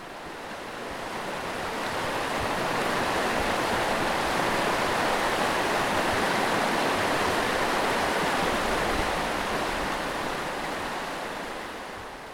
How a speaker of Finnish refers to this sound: Se on niin lähellä sitä Käylän koskea, se Käylän kirkko, että tuota, jos ulos mennään, niin kohina kuuluu siitä.